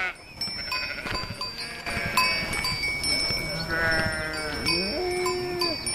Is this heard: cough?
no